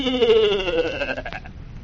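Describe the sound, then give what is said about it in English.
A goat bleats once, a single wavering, quavering cry lasting just over a second, clear, then trailing off into quiet background noise. “Everybody knows I only went into those woods to get back my goat.”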